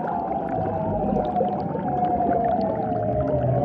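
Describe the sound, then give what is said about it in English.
An eerie underwater seal call, part of a long, elaborate vocal display aimed at females: a long, steady glissando tone gliding slowly downward in pitch, sustained throughout over a dense, crackling underwater background. No voices are present. “The lady seals apparently couldn't get enough of these eerie sounds, which is why they evolved into such long, elaborate displays.”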